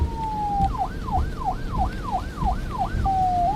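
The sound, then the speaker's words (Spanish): A loud siren on a car that has pulled alongside another car and flashed its lights begins as a steady tone, switches to a quick rising-and-falling yelp for several cycles, then settles back into a steady pitch, with low vehicle rumble beneath it. “El carro se nos emparejó, nos volvió a echar luces y luego sonó la sirena.”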